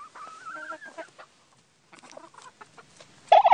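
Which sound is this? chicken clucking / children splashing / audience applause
chicken clucking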